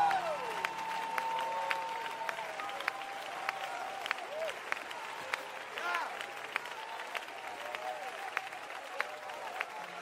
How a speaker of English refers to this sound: I said, don't you clap over my results. You got to start clapping for people that stay there in the midst of the wilderness, stay there in the midst of church splits, stay there in the midst of divorce.